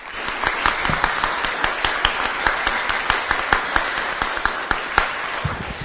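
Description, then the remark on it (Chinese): A crowd applauds steadily for about six seconds, many hands clapping in a dense, crackling wash with sharper individual claps popping out, holding an even loudness throughout with no voices. “再拍一次，鼓掌一次，谢谢。”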